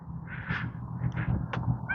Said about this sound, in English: There's, I hear some geese coming up behind.